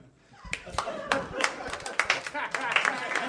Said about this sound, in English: You guys are clapping wearily like anyone asked you to clap.